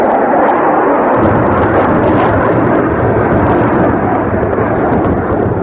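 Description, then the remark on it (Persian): Loud, continuous roar of Soviet-made Iraqi warplanes flying overhead while bombing Iranian cities such as Tehran, Bakhtaran, Ahvaz, Urmia, Hamadan and Abadan. The sound is thick and rumbling, with a deeper heavy rumble swelling in after the first second like bomb blasts; no voices. “هواپیماهای عراقی ساخت شوروی به بمباران شهرهای تهران، باختران، اهواز، ارومیه، همدان و آبادان سر کردند.”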